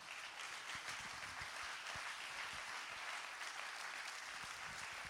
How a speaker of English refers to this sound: Would you give him a hand clap?